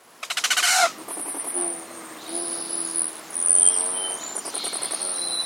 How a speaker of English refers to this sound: As you step out of doors one day in early March, a zinging, high-pitched whistle catches your ear. You are hearing the whistling wings of a male rufous hummingbird as it streaks through the garden, a sure and welcome sign of the advent of spring.